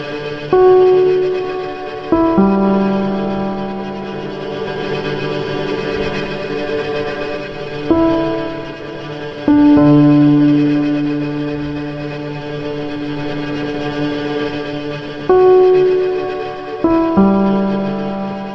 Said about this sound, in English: This is the iconic music heard at the beginning of 2010's The Social Network. Directed by David Fincher and written by Aaron Sorkin, this film told the origin story of Facebook.